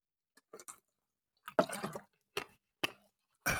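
Someone drinks water: a series of short, wet sips and gulps at irregular intervals, with one longer swallow midway and no talking.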